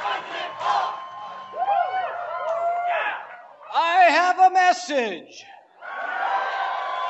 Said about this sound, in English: The crowd chanted, "President Paul."